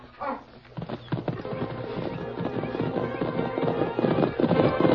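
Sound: horse hoofbeats riding away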